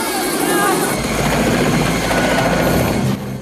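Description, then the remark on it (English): A helicopter roars loudly, its rotor and engine producing a dense, churning drone that holds steady for several seconds before easing slightly at the end, as Rambo's chopper is hit and goes into a tailspin. “Rambo's chopper goes into a tailspin.”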